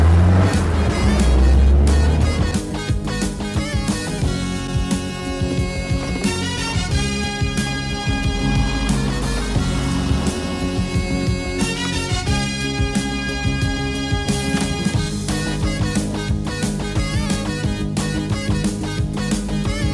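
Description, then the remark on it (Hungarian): A truck's engine rumbles loudly, with a deep throb at first that settles into a steady, continuous drone as the truck pulls in, arriving from Athens. “Szenes a Transmund 2-es kamionjával megérkeztek Athénból.”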